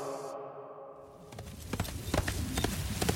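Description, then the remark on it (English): Horse hooves clip-clop in an uneven, irregular rhythm, starting faintly and then growing louder after a quiet first second, with no voices. The exhausted, sweating horse has arrow shafts protruding from its flanks, giving it an uneven gait, and is ridden in autumn chill and harsh winds. “The arrow shafts protruding from the horse's flanks gave it an uneven gait.”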